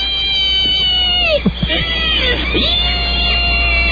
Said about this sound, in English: Yeah, that scream. That's just funny. In a sick way, it's just funny.